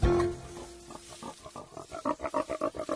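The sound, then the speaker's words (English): Pigs snuffle and grunt as they graze, snuffling through bushes and rummaging through leaves, a quick series of short rhythmic grunts that grows louder and more regular, with no talking over them. “They snuffled through bushes and rummaged through leaves, grazing as they went.”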